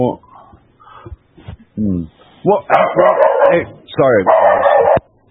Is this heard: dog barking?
yes